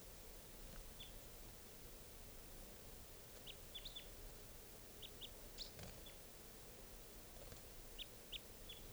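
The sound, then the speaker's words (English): A decoy bird, fluttering down to cage 624 and around the other decoys, gives short, high chirps, often in quick pairs, scattered across a steady background hiss, with no one talking. “It's fluttering down to fluttered down to 624's cage, and now it's fluttering around the other decoys.”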